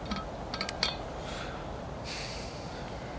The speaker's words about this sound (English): A coffee too, don't forget. Can I pour you one?